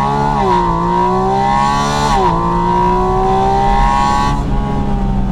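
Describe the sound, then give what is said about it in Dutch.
A Porsche 718 Spyder RS sports car engine revs loudly and steadily, its pitch climbing in stages with brief dips between gear shifts, a continuous rasping drone with no talking. “Ja, hij was niet een bomenrijtje aan het omzagen, maar gewoon had het lekker naar zijn zin in de Porsche 718 Spyder RS.”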